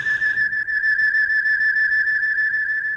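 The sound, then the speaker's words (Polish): A falling meteor's whistle: one loud, steady, high-pitched tone that holds an even pitch for about three seconds without a break. No voices are heard. “Słychać świst.”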